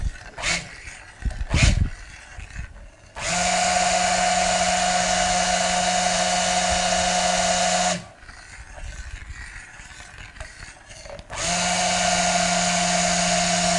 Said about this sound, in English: You can see it's getting thicker. Now if I lift this stick blender, it will sort of almost make an indent on the surface. So it's a light trace, what we call a light trace.